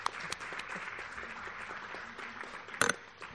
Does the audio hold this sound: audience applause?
yes